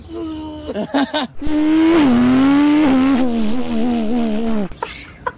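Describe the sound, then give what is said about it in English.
A child's voice imitates a car engine revving, starting with a few short bursts and then holding a long, loud, rising-and-falling vroom before cutting off. “He's making some car sounds if you want to hear.”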